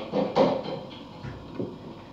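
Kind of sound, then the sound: household object, door opening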